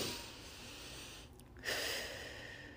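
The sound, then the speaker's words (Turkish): A deep breath: a long, airy inhale, a brief pause, then a louder, breathy exhale that trails off gradually. No talking. “Bir derin nefes almam lazım.”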